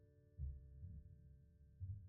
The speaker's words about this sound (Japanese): トントン。トントン。外の音は何にも聞こえない。ママの声と心音だけ。